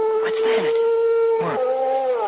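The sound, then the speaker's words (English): A steady, drawn-out howl from a dog outside at night holds one long wavering note through the whole stretch while two people briefly exchange questions over it. “Oh, that was just a dog, Dora.”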